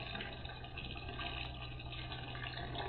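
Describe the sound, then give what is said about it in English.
Hot water pours steadily into a bathtub with Cuban bath salts poured in, a constant rushing hiss with a low hum beneath it, holding even and fairly loud throughout with no voices. “Tab's ready for you. Nice and hot. And I poured in the Cuban sauce that Mr.”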